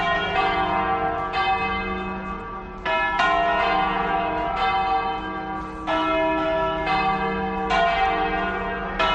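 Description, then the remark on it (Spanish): Church bells of most churches in Madrid, Spain, peal loudly and steadily at 12 noon, several bells overlapping with fresh strikes every second or two, their rich ringing tones sustaining and layering over one another with no voices present. “Las campanas en la mayoría de las iglesias madrileñas han sonado así a las 12 del mediodía.”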